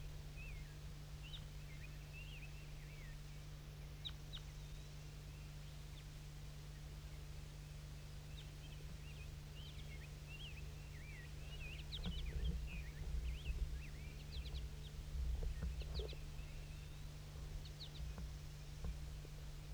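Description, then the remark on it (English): Wild birds call in faint, scattered high chirps and short twitters throughout, set against a steady low hum and broad hiss. There is no talking. “Start recording the wild birds again. I think there's some more wild ones flying around somewhere.”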